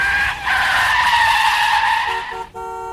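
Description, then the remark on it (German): A postwoman's bright yellow car rushes down a hill to a farm and skids to a stop in front of a mailbox, its tires letting out a loud, sustained high-pitched squeal that wavers for about two seconds before cutting off into a brief, steady tonal hum. “Mit ihrem knallgelben Auto rauscht sie den Hügel zum Bauernhof unserer beiden Freunde herunter und kommt mit quietschenden Reifen vor ihrem Briefkasten zum Stehen.”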